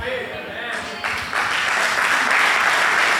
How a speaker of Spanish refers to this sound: ¿No saben si aplaudir?